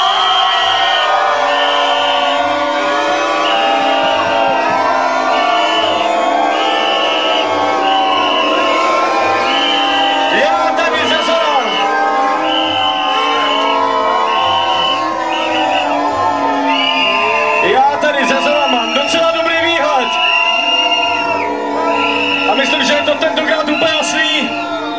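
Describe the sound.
One group within an audience cheers loudly and steadily for the band it supports during a contest round, for about twenty-five seconds, with many overlapping voices shouting, whooping and yelling in a dense, continuous roar.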